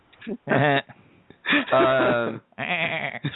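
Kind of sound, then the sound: sound effect, goat bleating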